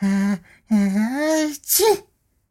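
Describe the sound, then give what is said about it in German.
A voice acts out a sneeze: two drawn-out, rising 'ah' sounds build up, then a sharp, hissy burst releases it, close and fairly loud, followed by silence. “Windkind muss niesen.”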